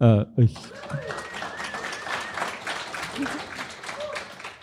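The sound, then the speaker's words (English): A voice speaks briefly, then an audience at a live show in a library breaks into sustained applause for Canadian philosopher Charles Taylor, a steady wash of many hands clapping at an even, moderate loudness for several seconds. “Who gives a round of applause for philosophers.”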